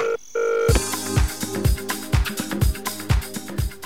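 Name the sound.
telephone dialing tones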